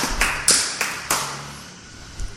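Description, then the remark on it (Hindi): A handful of sharp hand claps, four in quick succession with a slight echo trailing each, then a pause before one last softer clap. No one speaks. “अच्छी बात है, तालियां बजाने से।”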